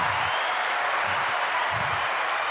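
An audience applauds to welcome a guest onto a show, clapping steadily throughout: a dense, even wash of many hands with no pauses and no voices over it, at a moderately loud, constant level.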